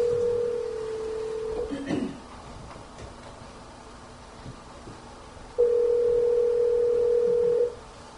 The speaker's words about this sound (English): if you could come up and dial up your mom's phone. I have the number.